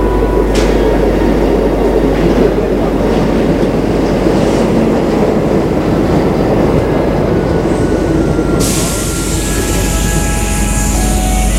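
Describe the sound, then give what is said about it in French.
A metro train rumbles loudly as it departs after its doors close, a steady heavy roar of wheels on rails, with a bright hissing whine joining in near the end as it pulls away. No one speaks. “Les portes se referment, le métro s'en va.”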